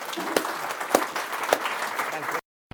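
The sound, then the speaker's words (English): A crowd applauds with dense, steady clapping and a few sharper individual claps standing out, holding at an even level for a couple of seconds before cutting off abruptly. “And on that note, we're running slightly tight on time, so give Richard a warm round of applause.”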